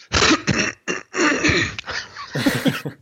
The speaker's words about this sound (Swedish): Ursäkta, vänta, får jag bara hosta till en gång?